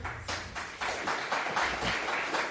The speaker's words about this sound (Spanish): Con aplausos y todo